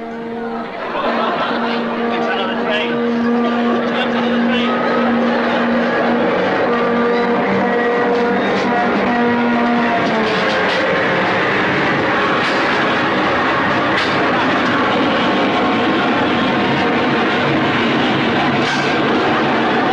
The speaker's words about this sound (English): Here comes another train the other way. Coming the other way now.